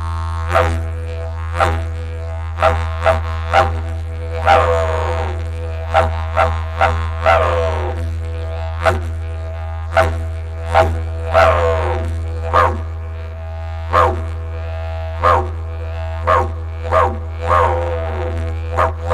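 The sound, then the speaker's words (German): A long series of sharp barks repeats at an irregular pace over a steady low hum, first lighter barks from a dingo, then broader ones from a domestic dog. “Dingo und Hund. Erst hörst du den Dingo mit dem helleren Ha! Anschließend den Hund mit dem breiten Wau!”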